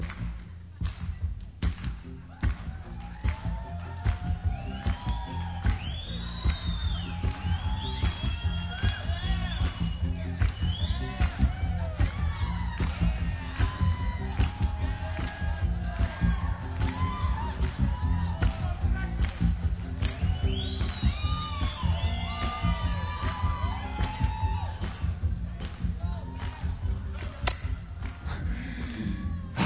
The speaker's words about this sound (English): Sorry, honey, I couldn't hear you. I couldn't hear you, they were clapping.